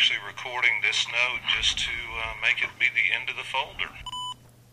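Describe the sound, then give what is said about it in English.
Fast, tinny voice playback of a just-recorded note from a digital recorder runs for several seconds, then stops and gives way to a short, clear electronic beep at the very end, signalling the last file in the folder. “what you heard there, as Jamie described, were two sets of beeps”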